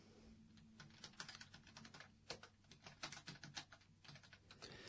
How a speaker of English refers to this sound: All right, now I'm live. I gotta stop typing.